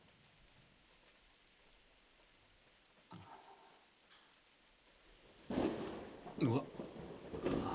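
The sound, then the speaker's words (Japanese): Steady stormy rain hisses throughout, broken by a short rumble of thunder midway that does not seem very close, then louder, rolling thunderclaps toward the end. A voice briefly exclaims over the storm. “こんな嵐みたいな天気じゃ、折りたたみ傘どころか君まで飛んでいっちゃいそうで。”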